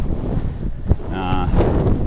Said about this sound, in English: I feel reasonably wide awake now, although not enjoying the riding, as you may be able to hear in the microphone, the wind's whistling in.